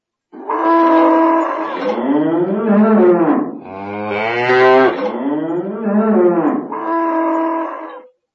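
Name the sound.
cows mooing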